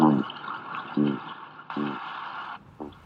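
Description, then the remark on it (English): Atlantic cod grunting underwater, recorded by Steve Simpson's team from the University of Exeter: four short, low, buzzy grunts spaced about a second apart, heard over a steady hiss of water noise on a hydrophone recording. “This is cod grunting in the northeast Arctic Ocean. And now from the West Atlantic.”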